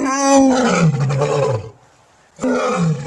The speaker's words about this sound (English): Actually, that's a lion roaring, and for this job, you might need to sound a little more prehistoric.